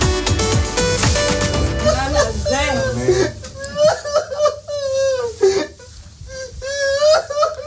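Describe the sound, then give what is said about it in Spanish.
A mother sobs and wails in high, wavering, broken cries, loud, as she embraces her son, a freed Israeli hostage, after more than two years, over a noisy burst of commotion and other voices at the start. “El llanto de esta madre lo dice todo.”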